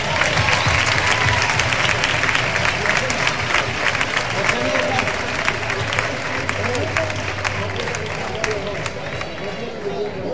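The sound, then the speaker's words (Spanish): A crowd applauds steadily for the children, a dense wash of clapping hands that stays loud and continuous throughout, with some murmuring voices mixed in beneath it. “Un aplauso para los niños.”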